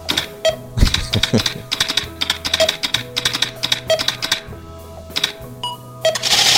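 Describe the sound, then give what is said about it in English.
Rapid clicky typing taps on a tablet keyboard, each keystroke producing a short synthetic click in quick irregular bursts, fairly loud with a low steady hum underneath; a typing sound effect played on an old tablet. “And then we can move on to this sound effect, I think, when I'm typing.”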